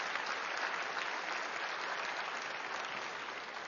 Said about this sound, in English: Well, don't patty cake. Praise God. Give him a hand clap of affirmation.